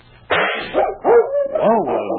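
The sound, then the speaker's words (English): A dog, King, lets out three or four loud yelping barks in quick succession, frightened by a firecracker set off for New Year's, each bark rising and falling in pitch with a whining, frightened edge. “I didn't think that dog was afraid of anything, Preston.”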